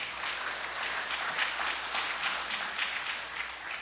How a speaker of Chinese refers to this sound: 我们可不可以荣耀归给神，拍手荣耀归给我们的主，好不好？